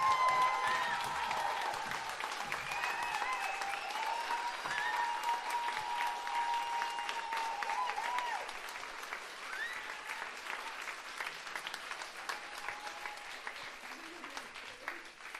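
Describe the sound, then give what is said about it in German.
A large audience claps steadily for about fifteen seconds to vote for a contestant to advance in a competition, a dense crackling applause with a few whistles and cheers over it early on, easing slightly toward the end. “klatscht Leute können, bitte jetzt!”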